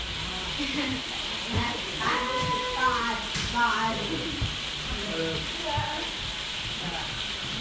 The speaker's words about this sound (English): Oh, raining. It's raining. Yeah. Raining a lot.